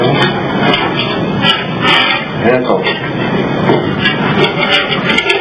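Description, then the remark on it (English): An in-room safe's lock gears grind and rattle in a steady, busy mechanical churn as a high school kid works the lock with a paper clip, with sharp little clicks popping out at irregular moments and muffled voices murmuring underneath. “You can hear the gears moving.”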